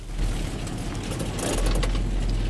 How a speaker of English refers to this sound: Dennis pulls up in his car between the junkyard's piled-up wrecks.